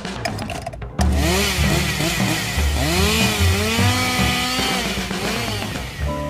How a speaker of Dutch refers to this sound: We hebben nog een kettingzaag. Ho, ho, ho. Ja, wacht even. We zitten in de Belgische week en we hebben hem... Dit is de aankondiging van de kettingzaag.